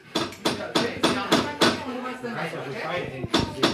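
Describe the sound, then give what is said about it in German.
Sharp hammer blows strike wood in a quick steady rhythm as children build wooden pirate ships around a large workbench in a workshop, pause while voices chatter in the background, then resume with a couple more knocks. “In der Werkstatt der Werkkiste hämmern Sägen und Schraubenkinder um einen großen Werktisch.”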